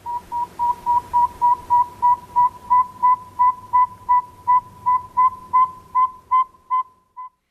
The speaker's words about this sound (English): That's the saw-whet owl. That's the male calling. He's trying to attract a mate. They migrate, and they will be returning to northern Minnesota sometime in the next couple of weeks.